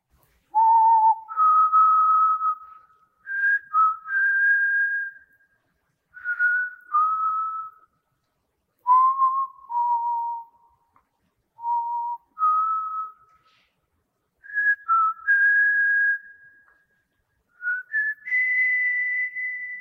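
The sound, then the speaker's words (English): On a crowded bus going down a hill, someone whistles a slow hymn about the amazing grace of God. The whistling is clear, in a series of sustained phrases separated by brief pauses for breath, gliding between notes. “And I looked around and I waited and I heard someone whistling a song about the amazing grace of God.”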